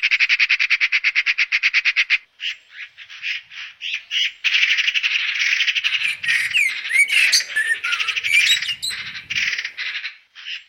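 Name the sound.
blackbird alarm calls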